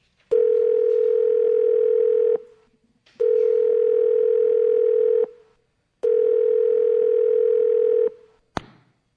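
Three long, steady bursts of a telephone ringing tone on a call to an office line, each about two seconds with short pauses between, loud and clear with no voices, ending in a sharp click as the line picks up.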